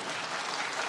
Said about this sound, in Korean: 박수 한번 쳐야 돼요.